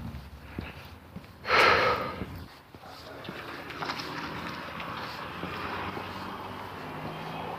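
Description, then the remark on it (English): A single loud, breathy exhale, like someone panting while walking briskly outdoors, followed by steady wind buffeting and faint rustling from moving along. No one speaks. “I'm moving right along too, so the fact that I'm panting shouldn't be a cause for concern.”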